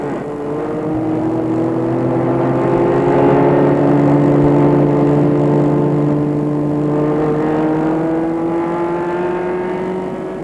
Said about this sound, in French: mère et le fils partent en voiture. C'est la mère qui conduit, elle adore cela.